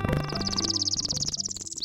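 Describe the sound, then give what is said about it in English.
A northern parula, a tiny North American warbler, sings a rapid, buzzy trill of high notes that climbs steadily and ends with a sharp upward flick, heard over soft sustained musical tones. “The northern Perula is a tiny bird with a big personality.”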